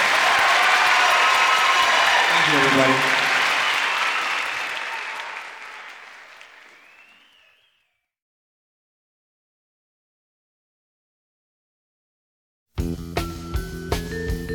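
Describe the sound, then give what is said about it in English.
Loud, dense crowd applause for a young male performer at the end of a show, gradually fading out over several seconds, with a man briefly thanking the audience, then silence before music with a steady beat starts. “Give this young man a nice round of applause, huh?”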